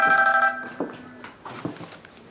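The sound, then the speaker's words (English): A mobile phone in an apartment rings with a short electronic melody for about a second, fairly loud, then cuts off as a woman pulls it from her purse, leaving soft rustling and handling noises. “She pulls out her phone.”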